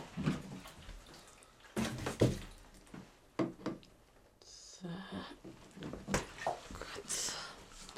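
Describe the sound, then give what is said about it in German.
Water runs from a tap in short bursts as water bottles are filled with drinking water just after sunrise, mixed with clattering and handling noises. “Wasserflaschen auffüllen, damit ich was zum Trinken mit habe.”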